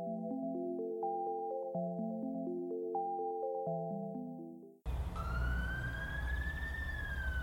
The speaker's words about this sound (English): Did you hear that? Hear what? The siren. At this point, I'd have to ask which one.